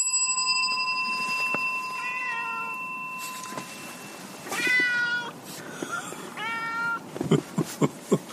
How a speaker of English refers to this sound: Yeah, what do you want, Yuki? You want to get in the house? Okay. Cat wants in.